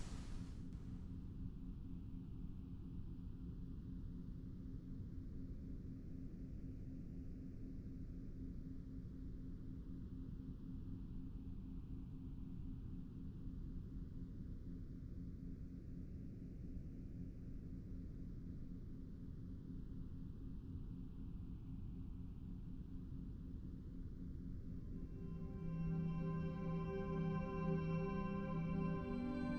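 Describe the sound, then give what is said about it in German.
A steady, soft wash of background noise with a deep rumbling base and a slow, wave-like swooshing sweep; faint tonal hums creep in near the end. No one speaks. “Lege dich bequem hin und stelle dabei die Lautstärke deiner Kopfhörer so ein, dass du das Rauschen im Hintergrund dezent und gerade noch gut für dich hören kannst.”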